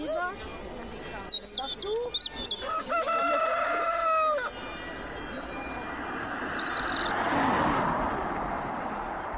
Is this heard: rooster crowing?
yes